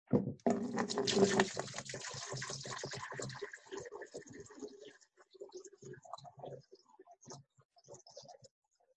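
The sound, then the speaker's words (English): Water pours steadily from a container, a full splashing gush for a few seconds that thins out into a quieter, uneven trickle and dribble toward the end. “Keeps on pouring. Just keeps on coming.”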